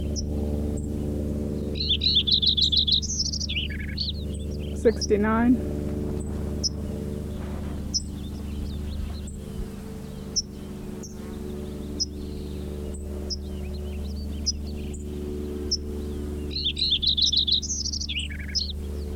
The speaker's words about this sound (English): Lincoln Sparrow number 3 continued.